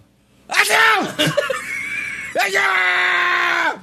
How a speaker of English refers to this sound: Like, it's fucking loud and long. And you're embellished. You don't need to sneeze like that. I don't know, man. You don't. I tried to be as loud as possible there.